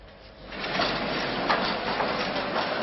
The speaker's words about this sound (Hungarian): Lassít az egyes villamos a Fiumei úton a Salgótarjáni utcánál. Az új szabályok szerint mehetne gyorsabban, de akkor szinte biztos, hogy kisiklana. A sínpálya megsüllyedt, és lenyomódik az aszfalt alá.